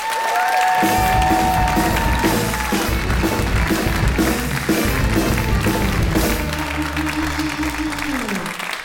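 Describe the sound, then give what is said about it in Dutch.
A crowd bursts into loud, sustained applause with scattered cheers welcoming guest Philip Geubels, who came from Flanders, steady for the whole stretch, while tonal music plays underneath and swells near the end. “We gaan eraan beginnen, dus dames en heren, mag ik voor jullie een heel hard applaus, want ik ben heel blij dat hij helemaal uit Vlaanderen hiervoor is gekomen.”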